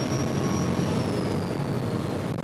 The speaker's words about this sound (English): The captain of the ferry, Ada Pearl, powers up the catamaran's turbo engines. We leave Narragansett Bay, picking up speed as we hit open water.